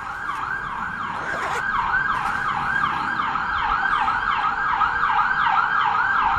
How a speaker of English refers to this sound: I don't know if you could hear that, but it's the so many alarms.